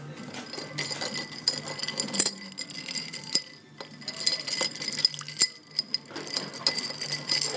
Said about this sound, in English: 50 mils of sweet vermouth, red vermouth. Martini Rosso will do, but I'm using Nuit-Pra because it's better. All that goes into the glass. You then stir. Could you stir that?